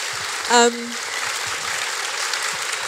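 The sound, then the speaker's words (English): A crowd applauds a panel at the close of a panel event steadily for a few seconds, a dense, even patter of many hands, with a brief high whoop or cheer rising over it near the start. “Can we please have a round of applause for this absolutely fabulous panel?”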